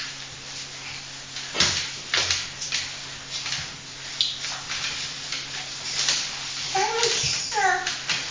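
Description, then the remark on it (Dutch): A chair is shoved and scraped across the floor in several short, uneven bursts, with thumps and knocks, while a child's voice chimes in near the end. “Ik kan hem niet meer schuiven, die stoel dan natuurlijk.”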